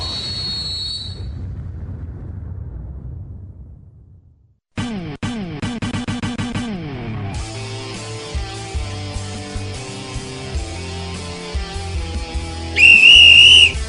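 A single loud, shrill referee's whistle blast of about a second, starting a football match, rings out at the end, following a busy musical jingle with sweeping tones and a brief silence before it.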